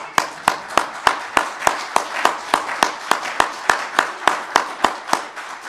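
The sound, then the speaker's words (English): A crowd applauds for Jesus Christ, with a steady rhythmic clap cutting sharply through a dense wash of scattered clapping. The beat stays even and fairly quick throughout, with no voices heard. “Can we applaud for Jesus Christ?”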